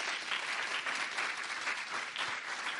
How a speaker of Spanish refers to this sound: Hay que aplaudir a los hermanos.